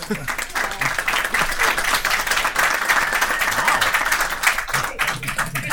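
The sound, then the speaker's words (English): An audience applauds steadily for the people who put on the show, a dense wash of many hands clapping at a fairly loud, even level for several seconds, with faint voices mixed in underneath. “Let's give them a hand.”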